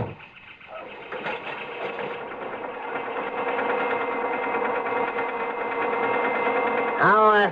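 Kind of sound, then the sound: vehicle, car engine running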